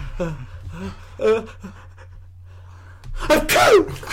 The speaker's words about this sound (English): I'm sorry, I have some allergies. Hey, you're a little sneezy there, buddy.